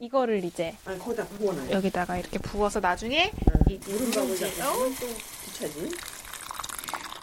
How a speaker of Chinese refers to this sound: 把石锅的米饭盛到旁边的一个空碗里以后，把热水倒入滚热的石锅里，这时候石锅就会发出滋滋的声音，滚烫的热水开始在锅里翻滚了。